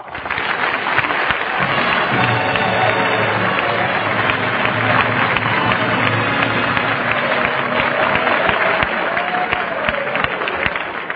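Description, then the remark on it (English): A sustained burst of audience applause greeting actress Rhonda Fleming as she is introduced, many hands clapping in a dense, steady roar that stays loud throughout, with some cheering voices mixed in; the Ohio football team is in the audience. “But why should I get all that applause?”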